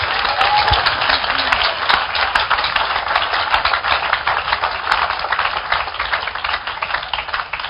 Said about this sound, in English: Clap for Jesus again.